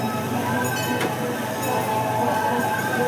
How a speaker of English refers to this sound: As we approach the depot, please remain seated until the train has come to a complete stop.